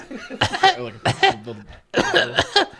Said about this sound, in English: As he made his way slowly limping along, he gave out a small cough that turned into a coughing fit.